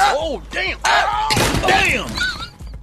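The last and smallest of three wooden chairs breaking apart as someone settles into it to rest: strained, creaky vocal-like groans lead into a loud, noisy splintering crash lasting about half a second, followed by a few more rising and falling groans.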